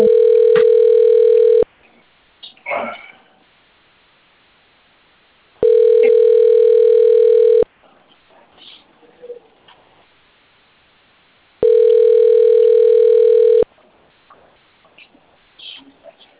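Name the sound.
telephone ringing tone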